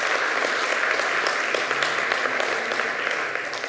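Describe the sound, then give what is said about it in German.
A church audience applauds steadily for Jesus Christ during a service, a dense, continuous wash of many hands clapping at an even, fairly loud level for several seconds without pause. “Und lass uns ihm nochmal einen Applaus geben.”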